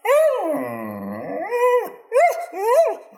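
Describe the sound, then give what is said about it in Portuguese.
A dog lets out a long, wavering howl, then follows with three short, rising yelping barks in quick succession. No one speaks. “Não é todo mundo que pode latir pros ouvintes e a galera considerar isso fofo.”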